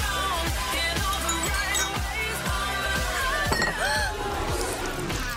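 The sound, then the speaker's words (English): Glasses clink and chime brightly as a drink is spilled, over a steady, thumping low beat, with a faint murmur of a crowd; the clinks are fairly loud. “Spilled your drink?”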